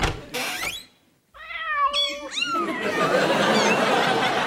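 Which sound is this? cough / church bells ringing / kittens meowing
kittens meowing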